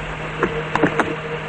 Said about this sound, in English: They pull into a parking garage. The car stops.